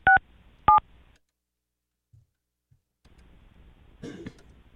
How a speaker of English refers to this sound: Tried to call. Calling again. Hold on. Calling again.